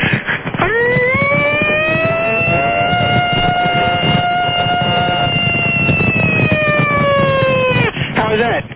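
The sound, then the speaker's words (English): A caller on the Don and Mike radio show imitates a siren with their voice, without a real siren: one long, steady wailing tone lasting about seven seconds, loud, with brief voice bursts at the start and end. “Hey, I can make that same sound without the siren.”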